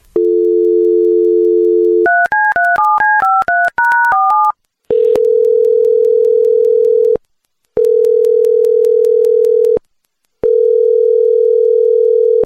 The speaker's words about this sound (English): So let's give him a quick call. Hold on one sec. Let me just dial him up here real fast.